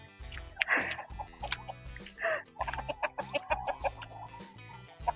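Lively chickens cluck in a busy, irregular series of short, bright calls, some sharper squawks rising above a low steady rumble, with no one speaking, at a place where eggs are bought from them.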